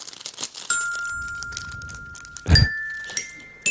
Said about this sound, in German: Es kommt immer was dazwischen, dass ich irgendwie nicht kann an diesem Glockenspiel.